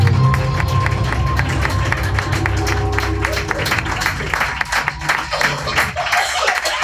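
Audience applause for Madame Gamayo and her Flash Paranormal segment fills the whole stretch: many hands clapping in a dense, steady patter at moderate loudness, with a low sustained hum underneath early on that fades out partway through.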